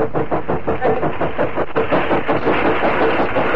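A train rumbles steadily along, its wheels clacking in a quick regular rhythm over a deep, continuous mechanical roar, loud and unbroken throughout.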